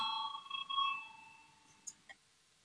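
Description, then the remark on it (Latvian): A voting signal bell in a parliament rings to call a vote, with a steady, bright tone for about a second and then fades away, followed by two faint clicks. No one speaks. “Lūdzu, zvanu balsosim.”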